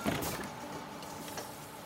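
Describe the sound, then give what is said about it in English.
An empty bus stops and its driver opens the door with a steady, fairly loud pneumatic hiss and mechanical whir that lasts throughout, with no voices present. “I remember when the sound of the door opening”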